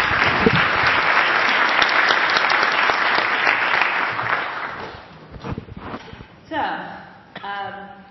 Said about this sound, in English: Everybody, a round of applause.